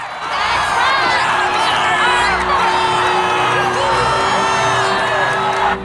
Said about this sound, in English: Marco looks through the grill bars at the chanting crowd below before turning to unscrew the cover of a metal cubbyhole to remove a leather bag.